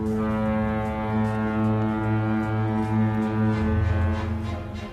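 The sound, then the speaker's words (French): A deep, sustained ship's horn blows steadily for several seconds, loud and resonant with a low droning tone, from the transatlantic ship la Provence bound for New York, like a large ocean liner sounding its foghorn with no voices present. “Nous sommes à bord d'un bateau transatlantique, la Provence, qui se dirige vers New York.”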